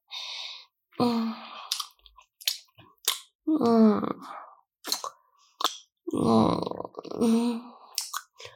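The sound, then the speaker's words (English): Wet gulping and swallowing noises repeat in irregular bursts, mixed with throaty voiced sounds and small mouth clicks, with no clear words spoken. “Oh, the timer's going, but I want to enjoy it as much as I can. You know how much I love swallowing you.”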